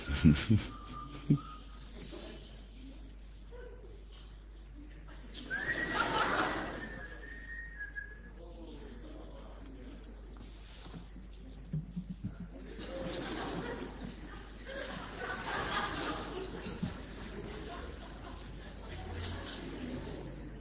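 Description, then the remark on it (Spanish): Short, high whistled notes come in brief bursts, one held steady tone standing out, amid soft cooing-like sounds, rustling and intermittent talking. “¿O vas a seguir chiflando?”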